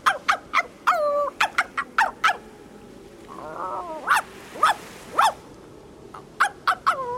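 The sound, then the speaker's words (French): An uneasy dog yelps and whines in a rapid series of short, sharp, high cries, with a brief warbling whimper midway, against a quiet background with no talking. “Et même le chien Top n'emmenait pas large.”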